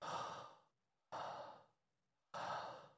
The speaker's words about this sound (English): And would you just take a few deep breaths and just intercede? Yes, Father.